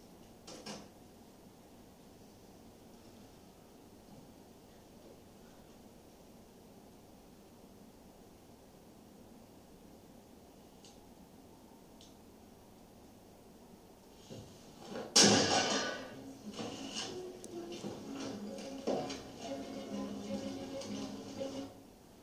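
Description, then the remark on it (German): A door swings shut with a single sharp knock after a long stretch of quiet background hiss, followed by a few seconds of scuffling and handling noises. “Dan, soll ich die Tür schließen? Oder? Ja, Sie können sie ruhig schließen.”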